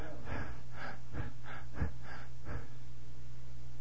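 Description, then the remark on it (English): A person imitates the labored, gasping breathing of a seriously ill woman in hospital with a hemorrhaged lung and blood clots: six quick, rhythmic breathy gasps in about three seconds, fairly loud, followed by quiet with a low hum underneath. “Other lung, many blood clots in it. Blood clots in her legs. Very serious. Breathing like this.”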